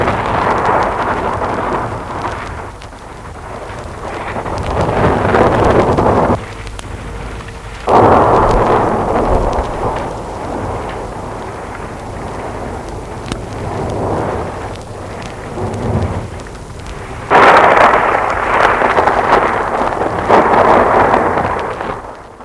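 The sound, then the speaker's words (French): A loud thunderstorm with deep rolling thunder and a steady roar of wind and rain, swelling and easing in heavy surges throughout, with no voices. “Le jour où ils étaient pris par l'orage dans la cabane du bûcheron.”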